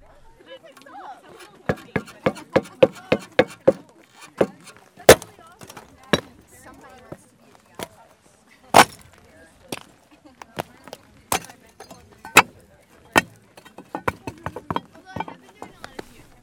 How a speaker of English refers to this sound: That's just stomping through the surface of this pile of salt.